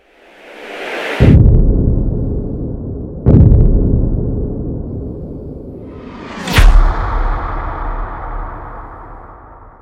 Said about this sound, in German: So, diese Woche wieder eine neue Aufnahme und wen wundert's, ein neuer Sturm. Also, wenn es rauscht und rappelt hinten runter, das ist jetzt der Wind, der jetzt über mindestens NRW drüber knallt.